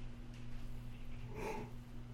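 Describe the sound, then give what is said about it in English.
A single short, breathy yawn with a faint voiced edge rises briefly midway through, over a steady low electrical hum. No one speaks. “I keep yawning. I can't get rid of it.”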